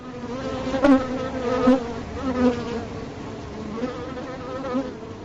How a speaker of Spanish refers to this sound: Con abejas, pero no una, ni dos, ni tres, ¿eh? Con miles de abejas, una auténtica nube formada por abejas, fueron directamente hacia ellas, hasta estas cuatro mujeres que iban montando a caballo